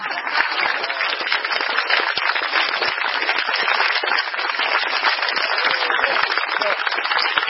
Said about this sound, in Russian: А давайте мы пригласим всех лекторов сюда, а вы нам поаплодируйте. Мне кажется, да, да. Лекторы! Подождите, вы что-то пришли. А мы будем хлопать.